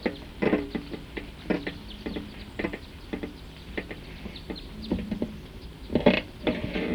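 bird calling

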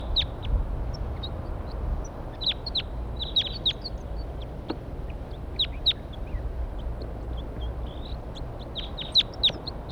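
wild birds calling

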